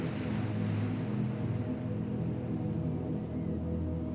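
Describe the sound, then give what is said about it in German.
Ocean surf on a sandy beach, with sand to either side and fog over the bay, rumbles in a steady, continuous wash of noise, loud, with no single wave breaks standing out and no voices. “Wir stehen so nah am Meer, dass die Luft, die du einatmest, schon salzige Tröpfchen beinhaltet.”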